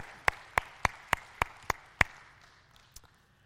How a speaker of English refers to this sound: So thank you. Can you give a round of applause to all those who helped out last week?